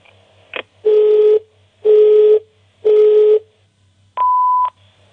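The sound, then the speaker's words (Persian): Electronic telephone keypad dialing tones sound in a steady sequence as someone places a call: three long, even beeps with short gaps, followed by a fourth higher beep, clear against a faint low hum, with no voices. “همه به شما زنگ میزنم.”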